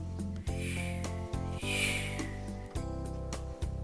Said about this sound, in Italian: Che folata, c'è un gran vento. Fruscia l'erba, l'aria fischia. Tira un soffio a pelo d'acqua.